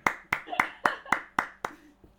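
A short round of applause: about seven sharp, evenly spaced hand claps in a steady rhythm, like one person clapping, fading slightly at the end.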